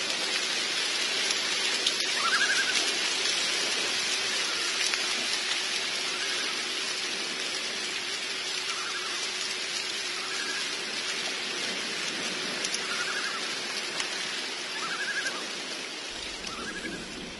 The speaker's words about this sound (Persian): هوا طوفانیه، مه همه جا رو گرفته.